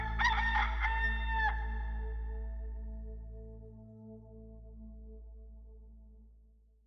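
rooster crowing

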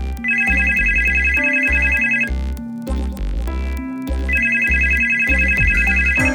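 telephone ringing

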